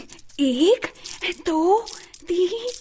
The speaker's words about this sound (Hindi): राजा रंगीला उस कपड़े को हटाते हैं और 2 मुठियां भरते हैं और श्रवण कुमार को अपने पास बुलाते हैं। ये लो। श्रवण कुमार झोली फैलाकर राजा की भेंट स्वीकार करता है और सिक्के गिनता है।